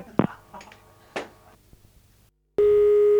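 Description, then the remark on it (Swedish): A loud, steady telephone busy tone starts abruptly near the end and holds without a break, following a few quiet clicks and handling noises over a low hum. “Ja, var upptaget ett tag där?”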